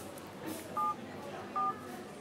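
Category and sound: signal or alarm, telephone number being dialed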